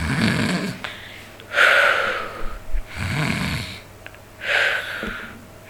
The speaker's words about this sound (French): Mako approcha de son repère à pas de loup et entendit des ronflements.